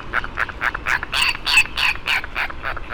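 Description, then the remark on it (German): A tropical seabird gives a rapid run of harsh, rasping calls, about four per second, steady, with a faint background hiss and no voices. “Und beheimatet ist dieser wunderschöne, leichte Vogel in den tropischen und subtropischen Zonen der Weltmeere, vor allem auf kleinen Inseln südlich des Äquators.”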